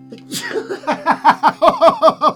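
A sharp sneeze bursts out, then a quick run of rhythmic voiced huffs, almost like breathless laughter, steadily pulsing for a couple of seconds.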